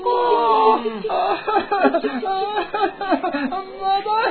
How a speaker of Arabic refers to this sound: أراك تئن وتتألم. لا أعرف، أشعر بتعب شديد، لا أستطيع الحركة ولا أستطيع الطيران.